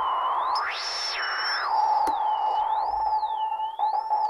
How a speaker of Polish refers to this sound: Z generatorem tonu sinusowego, zmiennego.